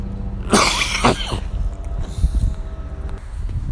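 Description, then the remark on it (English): Two or three harsh, loud coughs in the first second and a half from a person with a terrible cough walking past a few people, followed by lower rumbling noise and faint movement sounds with no talking. “Again, a paranoid stop there as I walked past a few people, and also was coughing. I had a terrible cough.”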